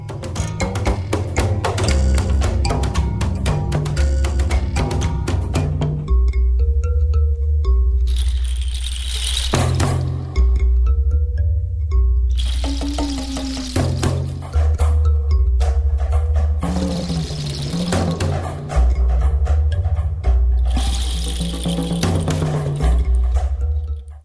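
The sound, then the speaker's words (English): A gourd ensemble plays a steady groove of deep drum thumps under rattling, trickling rain-stick bursts, with bright plucked thumb-piano notes ringing through the quieter gaps. “So you hear drums in there, yeah. But you also hear rain sticks, that sound that's like trickling, and then a thumb piano that they use.”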